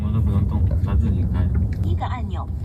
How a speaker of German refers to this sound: Das Auto fährt, ohne Fahrer, vollautonom im normalen Stadtverkehr. Auf dem Fahrersitz sitzt nur noch ein Aufpasser, der im Notfall eingreifen kann.